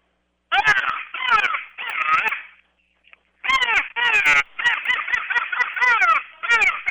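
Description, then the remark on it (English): A crow call blown on a wooden game call: a loud series of harsh, raspy caws, three in a row, a brief pause, then a longer rapid run of caws. “And after it starts getting light, the crow call usually works real well.”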